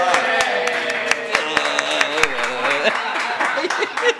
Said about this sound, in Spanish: Ahora sí, aplausos. Perdón.